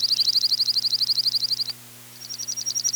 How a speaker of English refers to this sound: Juncos have a sweet trill.